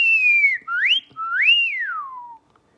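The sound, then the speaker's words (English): A person whistles a loud, clear, piercing tune with sliding pitches that rise and fall across three connected phrases, then stops. “So whistling can be really loud and clear and piercing because you've got this really nice tight space.”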